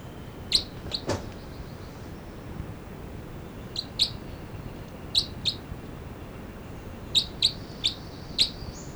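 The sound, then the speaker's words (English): Two birds, numbered 305 and 306, trade short, sharp, high-pitched calls, often in quick pairs or triplets, with pauses between bursts and a low steady background hiss. No one speaks. “305 and 306 here, and these are calls of it's 305 and 306.”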